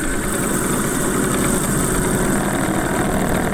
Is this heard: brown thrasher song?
no